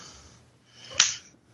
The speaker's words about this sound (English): I just got slapped. I got slapped hard.